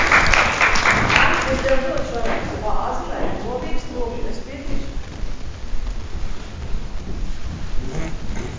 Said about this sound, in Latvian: Aplausi.